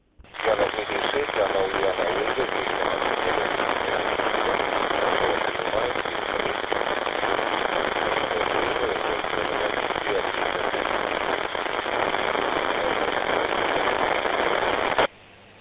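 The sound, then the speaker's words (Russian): Dense, steady radio static crackles on a received radio transmission for about fifteen seconds with a muffled, band-limited quality, loud and constant from start to finish, nearly burying a faint garbled voice beneath the interference. “Сильные помехи, либо в движении находитесь, ничего не разобрал на приеме. Извините, треск один, он перекрывает ваш голос на приеме.”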